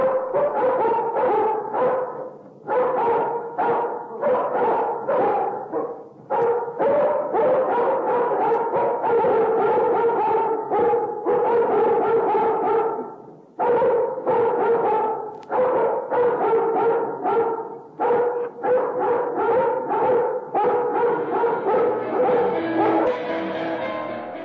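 A human voice, a performer, imitates dogs barking and yipping in rapid, loud bursts that run almost continuously, broken only by a few short pauses.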